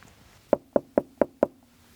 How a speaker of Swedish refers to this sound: Så därför går jag nu upp och knackar på dörren här.